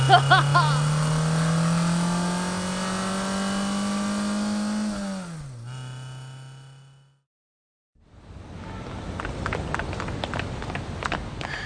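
A car engine revs loudly and steadily climbs in pitch, then drops and fades to a moment of silence before a rougher, clattering rumble of driving noise follows.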